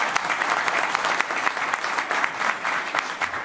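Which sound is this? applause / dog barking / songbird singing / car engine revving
applause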